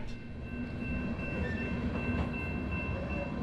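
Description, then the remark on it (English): A freight train rolling through the middle of a town, outside, takes a few minutes to pass: a continuous low roar of rolling cars with faint metallic squeals and hums, no voices present. “Outside, a freight train takes a few minutes to roll through the middle of town.”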